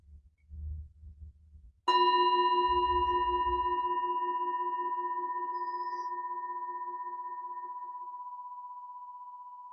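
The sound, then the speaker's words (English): A meditation bell, rung over a Zoom call, is struck once after a few soft low thumps, its clear ringing tone and shimmering overtones sustaining and slowly fading away over several seconds. “And the invitation is for now just to listen to the sound of the bell and just to listen to how this sound just subsides.”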